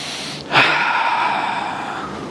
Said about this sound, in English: Or I can sit and I can take 3 seconds deep breathing.